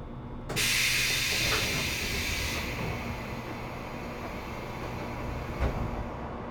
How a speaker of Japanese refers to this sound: まもなく発車をいたします。一旦ホーム側のすべてのドアが開きます。開くドアにご注意ください。